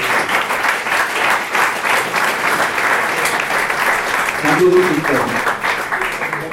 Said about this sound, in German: Ich glaube, das ist erstmal ein Applaus wert hier vom Auditorium.